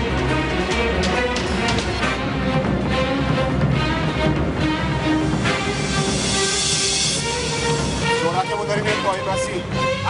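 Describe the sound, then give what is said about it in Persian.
A moving train rumbles steadily along the rails, a loud, continuous roar with a faint hiss, while muffled voices talk underneath. “سرعت قطار رو میتونی زیاد کنی؟”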